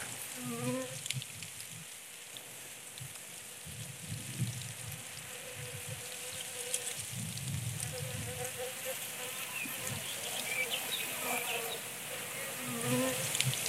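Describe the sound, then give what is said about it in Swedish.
Many insects, including bees, hum and drone together in a dense, continuous buzz in a flowering hawthorn covered in white blossoms, with individual bees passing now and then over a steady background hiss outdoors. “Men den här är ju som en prydnads, för den är helt översållad med vita blommor. Det är så vackert. Och det surrar. Ja, det surrar.”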